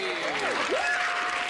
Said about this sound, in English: How about a nice round of applause for our losers?